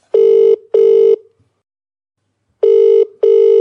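A phone line rings out for an outgoing call in the classic double-burst pattern: two short electronic buzzes, a pause of over a second, then two more, steady and fairly loud, with no voices.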